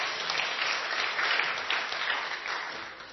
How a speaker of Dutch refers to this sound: Geweldige. Ja, enkele klappen, hè?